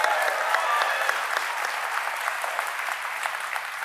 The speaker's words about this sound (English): You don't have to applaud my questions.